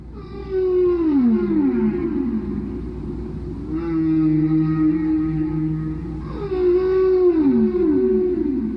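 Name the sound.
whale song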